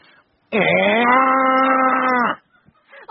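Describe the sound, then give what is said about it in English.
A person imitates a black bear with one long, loud, droning growl lasting about two seconds, with near silence before and after and no talking. “That's a black bear.”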